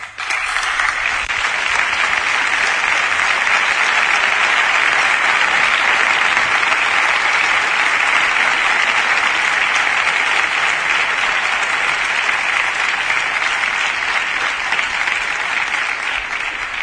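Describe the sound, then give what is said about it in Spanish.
Sustained audience applause, dense and steady clapping from many hands that holds at an even, loud level for about seventeen seconds with no talking over it, given in recognition of those honoured at a police institution event. “Por esto, solicito de todos los presentes un fuerte aplauso de reconocimiento para ellos y para ellas.”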